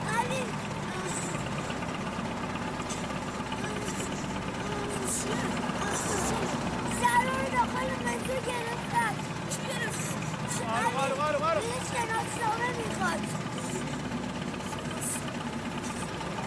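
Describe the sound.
A heavy crane truck engine idles steadily at night in an old garage yard with a low, continuous rumble and faint knocking vibration while an old, burnt green jeep is loaded with chains onto its flatbed. Voices speak intermittently over it and a few clanks punctuate the background.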